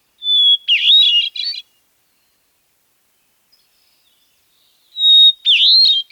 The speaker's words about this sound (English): The hermit thrush sings ethereal, paired phrases, long flute-like notes backed by complex, reedy phrases. Each is worthy of a long, silent pause in the woods. The Swainson's thrush. The veery. The hermit thrush.